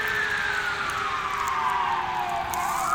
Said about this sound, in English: No, now we got multiple sirens, and now they're honking. Ooh, that's usually a pretty serious business when they're honking. All right, here they come. Let's see what we got. Fire truck.